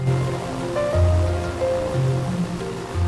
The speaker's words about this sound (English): Waves crash against the sheer cliffs of a wild coastline.